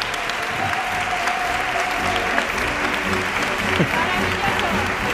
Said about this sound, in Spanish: Oye, un aplauso. ¡Qué maravilla!